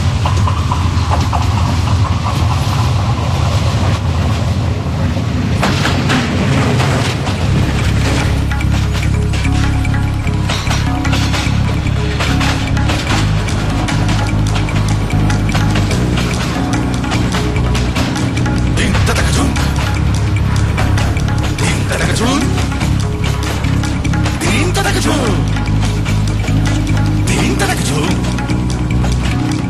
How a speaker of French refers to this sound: Et le train arrive. Donc on va suspendre cette interview. C'est quand même le studio le plus incroyable qu'on ait trouvé de toute l'histoire de la radio. Donc vous allez entendre siffler le train.